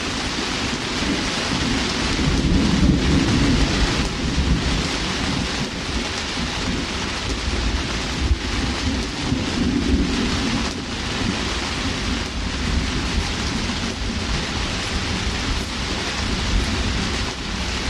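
Steady, heavy rain hisses for the whole stretch, with low rumbles of thunder swelling underneath now and then. No voices, just the continuous downpour and rolling thunder.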